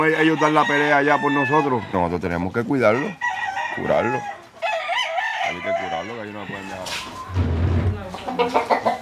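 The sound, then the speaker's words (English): Several fighting roosters, kept by a family, crow loudly and cluck, their harsh, wavering calls overlapping in quick succession with only brief pauses between bursts. “If the roosters have injuries from their fights, they tend to their wounds.”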